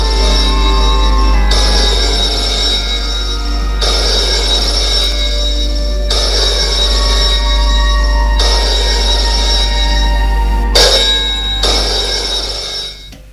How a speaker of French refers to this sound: Dans l'après-midi, le téléphone sonne encore une fois.